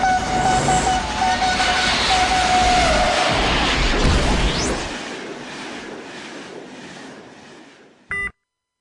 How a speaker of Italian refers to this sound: Attenzione, treno in transito, depositare il presidente al binario 1.